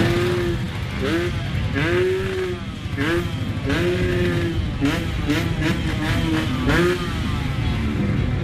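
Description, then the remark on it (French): A small scooter engine, ridden by a 16-year-old boy in a city, revs again and again, its whine rising and falling in short bursts, loud over a steady rumble of surrounding street traffic. “Juché sur son scooter, Joaquin, 16 ans, est à peine plus âgé que son pays, et encore trop jeune pour voter.”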